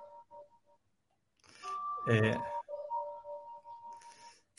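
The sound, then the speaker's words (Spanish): Church bells ringing the Angelus at 12 o'clock: a few short tones, then a loud clanging strike that leaves steady, humming metallic tones hanging and fading over several seconds. “Mira, están llamando las campanas.”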